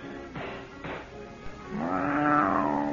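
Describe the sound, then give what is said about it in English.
A cat named Kismet meows insistently while waiting to be fed dinner in the back room of a fortune teller's establishment: two short cries, then a longer, louder drawn-out yowl with a rising and falling pitch, with no one talking. “At the moment, in the back room of her bleak establishment, the madam is engaged in a rather secular chore, feeding her cat.”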